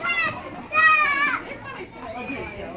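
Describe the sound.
Children shriek and shout while playing, their high-pitched voices rising in loud, overlapping squeals over a steady bed of lively chatter.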